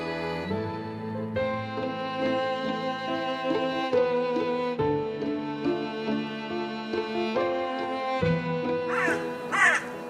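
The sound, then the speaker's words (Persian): Crows caw among plane trees in autumn in Tabriz, amid a steady, sustained musical drone, with a pair of harsh, loud caws standing out clearly near the end. “صدای کلاغ‌های تبریز بین چنارهای پاییز پیچیده بود”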